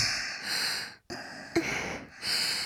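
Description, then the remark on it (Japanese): Slow, airy breaths exhaled right against the microphone, about four soft, hissy puffs with brief pauses between them and a small catch in the middle; no talking. “できれば吐息でも感じてほしいかな。”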